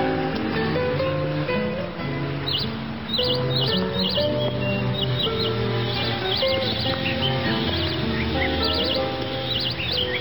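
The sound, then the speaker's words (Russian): Birds chirp and twitter repeatedly throughout in a city park almost in the city centre, their quick bright calls over a steady outdoor background hum of traffic and city ambience. No one speaks. “Здесь хорошо. Я сюда часто прихожу, мне нравится. В центре города почти. Птицы поют, белки скачут.”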